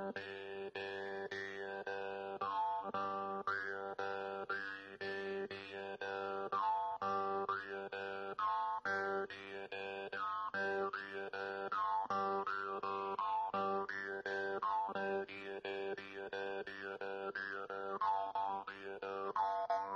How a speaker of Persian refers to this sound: امروز زنبورک را بیشتر در نواحی ترکمن نشین ایران می نوازند و در نواحی دیگر ایران یا منسوخ شده یا متداول نیست. در ادامه شنونده صدای زیبا و متفاوت زنبورک باشید.